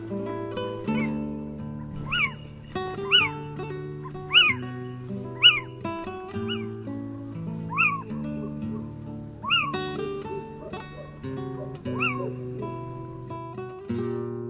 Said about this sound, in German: Das war der Steinkauz.